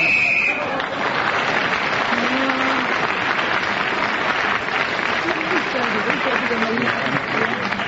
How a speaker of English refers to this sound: But as … was speaking then when the whistle went, he gains that extra point.